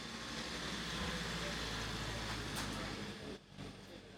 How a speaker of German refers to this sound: Und jetzt kommt hier ein städtischer Wagen vorbeigefahren. Ja, warten wir kurz.